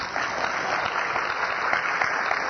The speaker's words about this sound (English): I finished all the questions this morning. I will accept a round of applause for that.